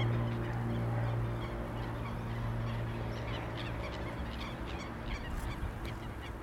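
A busy flock of birds calls continuously, with overlapping honking cries rising and falling over a steady low hum, loud and sustained throughout with no voices.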